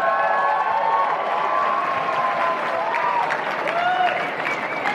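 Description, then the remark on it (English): A crowd gives polite golf-style applause at a Chicago Cubs event marking the 10th anniversary of the Ricketts family's ownership, clapping steadily for the full five seconds, dense and even with a few voices and faint whistle-like tones threaded through it. “Golf applause.”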